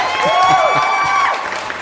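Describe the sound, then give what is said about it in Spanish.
A short, loud burst of crowd applause sound effect with cheering and a few whistles rising over the clapping, steady for about two seconds, given as applause for the maker of a Mega Man game version. “Así que bueno, nada, un aplauso para este otro chinito seguramente que lo hizo.”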